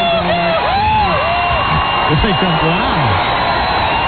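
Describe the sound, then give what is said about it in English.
A large crowd at a street event with high-heeled men cheers loudly and steadily while cheerleaders urge them on, a dense roar of many voices with individual whoops and yells swooping up and down in pitch throughout. “And the cheerleaders are out there cheering the crowd on.”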